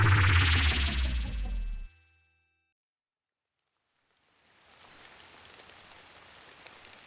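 A loud, rich burst of sound cuts off into a few seconds of silence, then a steady patter of rain falling on the wet paving tiles of a square fades in and continues evenly.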